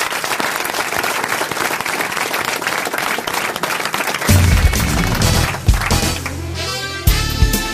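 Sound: audience applause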